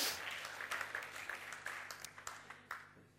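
A brief burst of audience applause, dense clapping that thins out into a few scattered, sharper individual claps before stopping. It's fairly quiet overall, with no voices over it.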